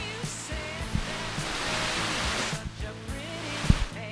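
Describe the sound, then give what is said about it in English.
Heavy tropical storm rain pours down in a dense, steady hiss like static, with a few dull thumps and a low hum underneath. No one speaks. “Hey, listen, you wanna listen to the rain?”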